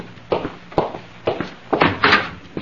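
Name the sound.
door opening or closing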